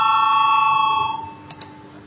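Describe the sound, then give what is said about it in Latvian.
A parliament's steady electric voting bell rings for a vote on deputy Valainis's proposal No. 28, with a bright, sustained multi-tone buzz for about a second, then fades out, followed by two faint clicks in the quiet. “Lūdzu zvanu, balsosim par 28. deputāta Valaiņa priekšlikumu.”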